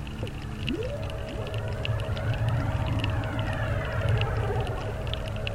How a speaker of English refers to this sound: Where we're tuning in the traffic and weather. Here comes a car.